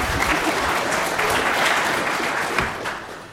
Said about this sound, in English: Yeah, you guys are allowed to clap.